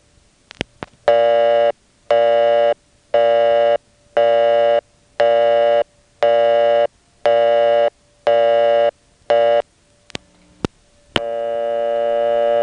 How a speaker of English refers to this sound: Line 3411 was busy.